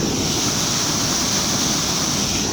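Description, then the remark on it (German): A steady, loud roar of the Mille river's water rushing beneath an old mill, now an excursion restaurant, dense and unbroken like a torrent, with no voices over it. “Da hat die Mille tosen unter mir. Da ist ganz schön viel Wasser, was da jetzt durchgeht.”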